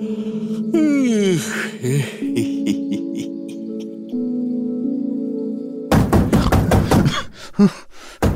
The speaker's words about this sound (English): At 9 o'clock, I was startled out of bed by some frantic banging at my door. An assistant had rushed to my room with a summons to come to the set immediately.